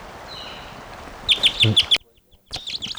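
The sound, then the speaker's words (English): A female wild bird takes off with a brief burst of fluttering wingbeats, mixed with a quick series of sharp, high chirps, then a short pause before more chirps follow. “Around, it just took off.”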